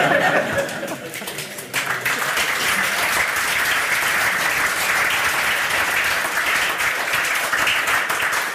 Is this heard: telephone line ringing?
no